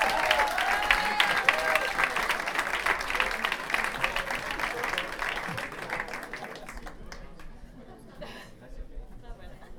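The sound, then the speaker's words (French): An audience at a goguette (a satirical song event) breaks into loud, sustained applause for a performer being welcomed, mixed with cheering voices and chatter, the clapping thinning out and fading over the last few seconds. “Donc on l'applaudit normal, on y va.”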